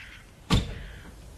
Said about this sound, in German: Da, sie steigen ins Auto.